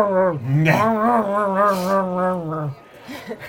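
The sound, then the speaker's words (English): A person imitates the low, drawn-out growl of a mud-covered dog when approached, lasting a few seconds, fairly loud, rising slightly in the middle before cutting off, followed by a few soft breathy sounds. “And the dog, when you come near, having seen other people get clean, is like...”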